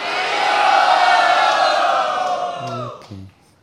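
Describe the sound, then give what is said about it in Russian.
A crowd shouts "Haribol" together in one loud, sustained collective cry that swells, holds for a couple of seconds, then tapers off, with a few short lower calls trailing at the end, raising hands to vote that someone passed an exam. “поднимите руки и крикните «Харибол».”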